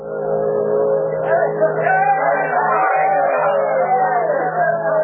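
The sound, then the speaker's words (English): A large crowd at the dock in Dawson City on the Yukon River cheers and shouts continuously in clear air as a steamboat, the last boat of the season, steams into port, over a steady low mechanical hum like a steamboat engine; the dense roar of voices holds at an even, fairly loud level throughout. “Cheers swept through the clear air as the Bonanza Bell steamed into port.”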